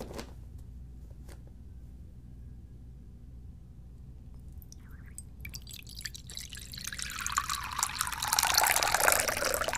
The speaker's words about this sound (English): No, I'm just using tap water. That's not even that serious. I can't believe you're so critical sometimes. Alright. Let me pour it into my bowl.